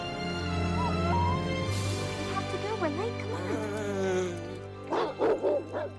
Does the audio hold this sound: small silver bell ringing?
no